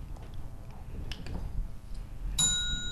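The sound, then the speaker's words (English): A single bright quiz-buzzer ding sounds near the end during a multiple-choice quiz question: a sharp electronic chime that rings on with a steady high tone. A few faint clicks come before it over low background rumble. “Did somebody buzz in? I think the buzzer thing.”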